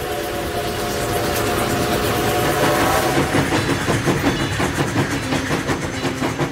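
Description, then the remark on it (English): A train roars past on the rails in a loud, steady rush, with droning tones early on that give way to a quickening rhythmic clickety-clack of wheels over track joints. “They're called iron horses, battleships, hotshots, rattlers, wind cutters. These are not names for safe machines.”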